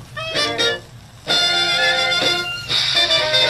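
An old Dixieland jazz 78 record from the Internet Archive's Great 78 collection plays loudly, with bright, brassy horn lines in lively stacked bursts, a short pause, then a fuller ensemble swell. No one talks over it.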